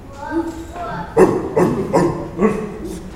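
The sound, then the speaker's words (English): Children imitate a dog barking, shouting about four loud, rhythmic woof-like bursts, just after a brief drawn-out vocal tone. “What kind of sound does a dog make?”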